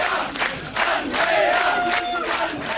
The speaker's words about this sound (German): Die Jubelrufe wollten kein Ende nehmen und die Spitzenkandidatin freute sich sichtlich.